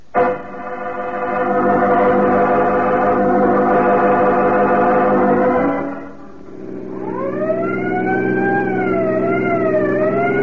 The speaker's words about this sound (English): Peters, you can drop the siren.